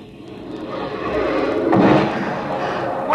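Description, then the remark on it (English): Fireworks boom and crackle, with a steady rumbling wash of bursts swelling to a heavier blast near the middle before settling into a continuing roar. “Like sitting on the grass and watching the fireworks.”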